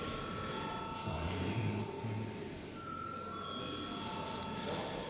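A parliamentary voting bell rings continuously before a vote on proposal 157 of the Civic Union party faction, a steady sustained electronic tone that holds for several seconds at moderate loudness over a faint background murmur.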